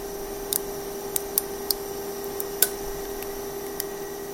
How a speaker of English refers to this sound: Now, here's what a plastic gyroid with thin walls sounds like under pressure.